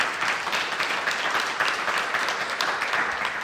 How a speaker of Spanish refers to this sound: Dale aplauso al Señor, hermano, que lo merece. Gloria a Dios.